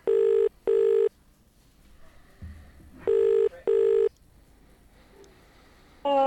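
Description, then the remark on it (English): A phone call ringing out: two loud double-burst ring tones about three seconds apart, clear over a quiet line, with a brief new sound starting right at the end. “I think I might need to make a phone call real quick.”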